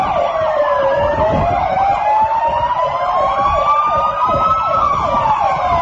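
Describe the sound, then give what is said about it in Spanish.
Sirens of seven police cars wail at once as they close in behind a car that brakes during a chase, their rising and falling tones overlapping loudly and continuously over a low rumble of engines and road noise, with no one speaking. “Vamos a ver si podemos escuchar el momento en el que el coche, pues, va, frena y le caen detrás, pues, los agentes de la policía.”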